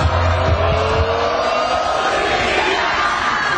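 A loud, dense stadium crowd at a women's volleyball match roars and jeers continuously as the USA team gets ready to serve, shouting "Zika", a broad wash of many voices with rising tonal shouts sustained throughout, no single voice standing out.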